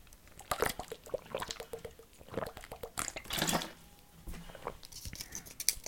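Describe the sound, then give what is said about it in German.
Wet mouth sounds of someone sipping and swallowing water, with small slurps, liquid clicks and a soft gulp, with no talking. “Oh, ich muss mal kurz einen Schluck Wasser trinken.”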